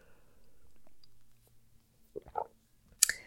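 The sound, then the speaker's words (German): Quiet at first, then a couple of soft gulping swallows followed by a sharp wet mouth click, like someone drinking a sip of water. No one speaks. “Lass uns zu Tipp 3 kommen und ich muss mal einen Schluck Wasser nehmen zwischendurch.”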